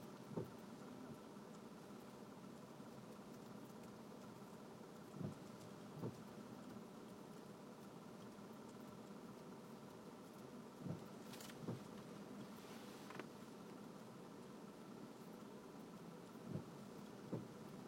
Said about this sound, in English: Raining. Finally. I hope it's raining up north.